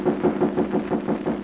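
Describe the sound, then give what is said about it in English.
A quick, steady run of about eight knocks on the door of hotel quarters in the evening, evenly spaced and moderately loud, with a low hum underneath and no voices. “Suddenly, there are knocks at the door.”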